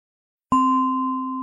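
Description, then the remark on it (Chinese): A single meditation bell is struck once after a moment of silence to mark the end of a guided meditation practice, its clear tone ringing out and sustaining with a slow, gentle decay. No voices are present. “当你听到铃声时，可以轻轻地睁开眼睛。”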